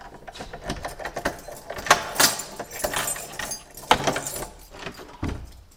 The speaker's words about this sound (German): Was man jetzt eigentlich in keiner Kapelle sonst findet, in Deutschland, glaube ich, das ist, dass wir jetzt in der Kapelle eine Tür öffnen und dann kommen wir nicht in die Sakristei, sondern wir kommen in einen Schlafraum.